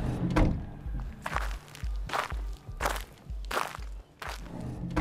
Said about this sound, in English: So we opened the patio door, and out we went to his shed.